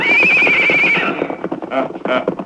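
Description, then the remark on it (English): A loud, quavering horse whinny rings out for about a second, then gives way to a quick, uneven run of hoof clops, with a few fainter squeals mixed in, as a man is put on his horse and moved along in a Lone Ranger radio drama. “Get him on his horse. Move him along, boys.”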